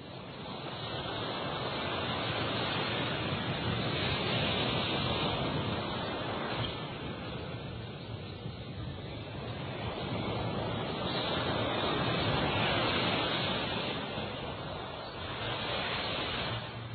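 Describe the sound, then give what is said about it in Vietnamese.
Steady roar of ocean surf breaking on a long beach in Malaysia lined with coconut palms, with slow swells in loudness as waves roll in, mixed with some wind; no voices. “Trên bãi biển Mã Lai dài thăm thẳm, tôi dừng chân, ngồi dưới hàng dừa trông ra đại dương”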